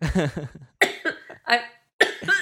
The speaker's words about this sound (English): I'm coughing and trying to laugh at the same time, and it's not working. It's not working.